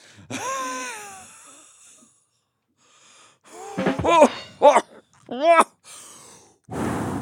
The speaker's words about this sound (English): So I love whistling in my normal life, so I really have to be careful not to whistle. I can only whistle from one end.